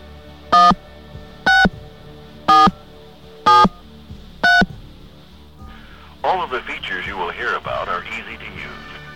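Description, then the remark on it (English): Five loud touch-tone keypad beeps sound in a steady, evenly spaced sequence, each a short electronic tone, as digits are entered on a touch-tone phone. After a brief pause, a voice starts talking. “If you have a touch-tone phone, please enter your area code and the first three digits of your telephone number now.”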